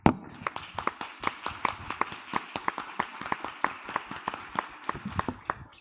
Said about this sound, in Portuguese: Eu quero aplaudir vocês agora.